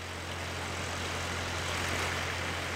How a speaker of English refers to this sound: talks over the sound of an engine sucking water out of the lake and pumping it through her fields.